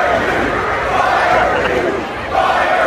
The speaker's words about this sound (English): We have now an actual crowd chanting "Fire Hugh." I mean, we didn't have to make this up.